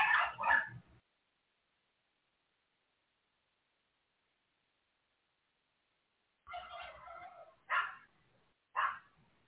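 animal, dog barking

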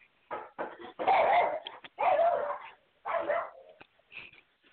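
animal, small dog barking

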